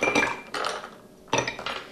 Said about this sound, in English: I'm going to add some ice to my mixing glass.